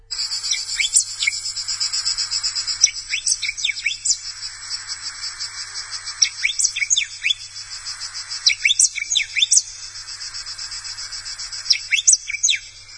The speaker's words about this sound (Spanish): Si no me equivoco, ese es un cardenal amarillo.